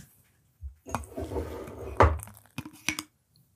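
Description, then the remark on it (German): Several sharp glassy clinks and taps ring out as a glass coffee pot knocks against a cup over a soft, trickling pour of coffee, with one louder knock near the middle and a few quick bright ticks toward the end. “Die Glaskanne klingt auch anders an der Tasse als die Porzellankanne.”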